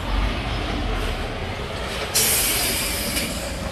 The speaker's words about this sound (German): Weil der lässt natürlich richtig Dampf abgeben.